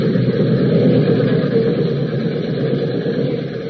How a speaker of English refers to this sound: There's a train coming around the bend.